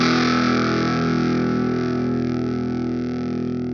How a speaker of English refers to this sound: This is the Spaceman Effects Explorer 6-stage phaser pedal.